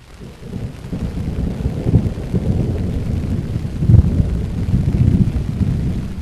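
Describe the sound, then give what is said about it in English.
A thunderstorm rumbles steadily, with heavy low thunder swelling in waves and peaking around two and four seconds, over a constant wash of falling rain. No one speaks. “We're really getting some rain here, and the thunder, as you can tell in the background, is really cranking up.”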